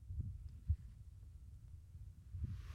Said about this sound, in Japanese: 赤ちゃんはお母さんの心音を聞くとすごく安心するんだって。泣いてたのが泣き止むレベルで。君はどう？私の心音安心する？本当に安心するんだ。